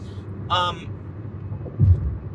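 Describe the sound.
Steady low road rumble fills a moving car's cabin on rough roads in the thumb region of Michigan, with a brief voiced sound near the start and a slightly heavier thump of rumble toward the end.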